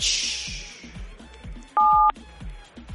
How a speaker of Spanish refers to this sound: Activa la ruleta, pincha un dígito ahí en tu teléfono, pincha un dígito. Ya, vamos a pinchar un numerito.